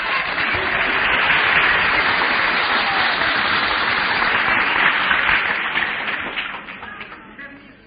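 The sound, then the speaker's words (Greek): Sustained audience applause, a dense crackle of many hands clapping at steady volume for several seconds, then thinning and fading toward the end. “και θέλω να πιστεύω ότι αυτά τα χειροκροτήματά σας δεν είναι τυχαία, όχι προς το πρόσωπο του Αυγουστίνου.”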